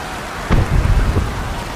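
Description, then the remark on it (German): Steady rain hisses throughout during a storm at sea aboard a ship, then a sudden thunderclap cracks in and rolls into a deep, rumbling boom for under a second before easing back into the downpour. “Das war der Donnerschlag!”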